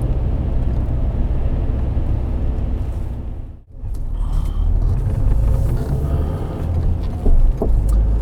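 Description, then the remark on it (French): A family car with a broken headlight drives steadily along a road toward a gendarmerie checkpoint, its engine and tyre rumble loud, dipping briefly partway through before building back up. No one speaks. “Avec notre voiture familiale, ça va passer.”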